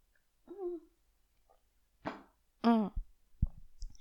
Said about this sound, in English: Excuse me. I'm gonna drink a sip of my ginger lemon tea.